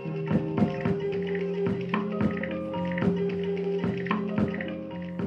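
Slow electronic, down-tempo, experimental music performed live, with sustained low synth tones shifting pitch beneath a steady pattern of soft, tapping percussive hits at an unhurried pace.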